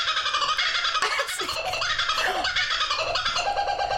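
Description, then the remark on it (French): A giant kingfisher calls loudly and harshly, a dense run of raucous, cackling notes that continues without pause for several seconds, with no talking. “on est sur effectivement un oiseau. Ouais. Et donc, l'idée, bon, je comprends que vous ne l'ayez pas, c'est un martin pêcheur géant”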